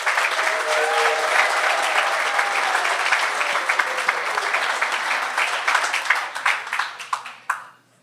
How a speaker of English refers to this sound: Let's have a final round of applause for all our fellows.